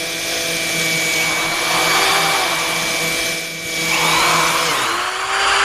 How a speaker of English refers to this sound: That was a bit of bone that got caught in the blade.